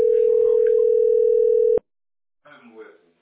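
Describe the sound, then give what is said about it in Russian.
A steady electronic phone tone hums loudly for nearly two seconds as a call goes unanswered, then cuts off abruptly, followed by a short silence and a voice starting to talk. “Люба, он не отвечает”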